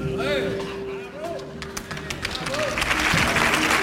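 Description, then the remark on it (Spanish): An audience breaks into applause, scattered claps at first, then swelling into a dense, loud ovation, with whistles and crowd voices rising over a steady low hum. “Esta ovación puede dar respuesta a tu respuesta.”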